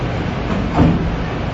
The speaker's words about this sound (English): That's the air conditioning saying amen.